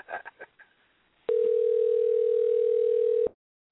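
A steady, unbroken telephone dial tone holds one mid pitch for about two seconds and then cuts off abruptly, following a brief burst of faint clicks and chatter.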